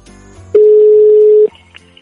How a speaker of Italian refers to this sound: E quindi andiamo subito a fare le nostre chiamate a casaccio e sentiamo chi ci risponde. Squilla, e non è poco. Andiamo a Diaceto, nel comune di Pelago.